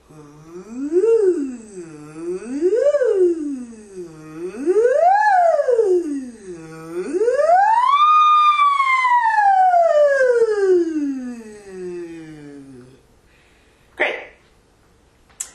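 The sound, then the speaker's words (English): A single voice makes four siren-like pitch glides as a vocal exercise, each sweeping up and back down, the last one climbing highest and falling slowly. It is fairly loud, followed by a brief noise. “All right, the last siren-like exercise is the one where we go a little bit higher for four times.”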